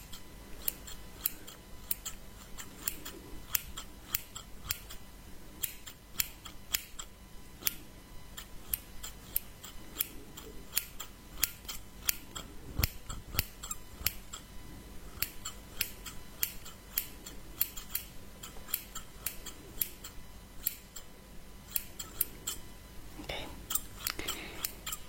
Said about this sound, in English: Your clothes are quite hard to cut, but I guess it's a good thing.